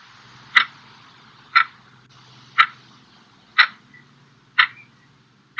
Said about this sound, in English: The clock was ticking.